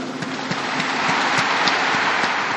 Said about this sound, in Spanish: Aplaudamos a los nuevos beatos. Un applauso ai nove beati.